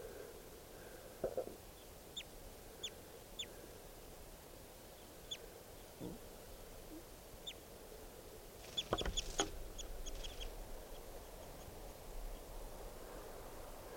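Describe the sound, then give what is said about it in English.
Scattered short, high-pitched bird chirps and calls ring out outdoors over a steady low background hiss, with a brief cluster of louder calls near the end. No one speaks. “So recording, there's some other birds here, including lots of two birds, and there's one in the net, and here's the other one.”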